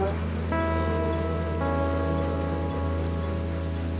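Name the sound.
raindrops falling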